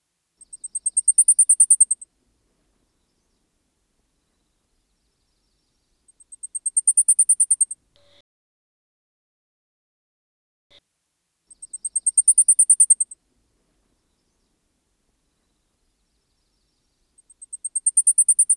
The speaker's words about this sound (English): The Blackpool Warbler song consists of a rapid series of very high-pitched, short notes, which are usually most forceful in the middle of the song.